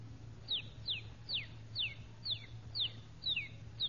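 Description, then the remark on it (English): A one-day-old rooster chick peeps repeatedly, each call a thin, high, downward-sliding note, about eight in steady succession over a low, constant hum. “You've got here The Life of a Rooster in four parts. One day, 4 months, a year, and 4 or 5 years old.”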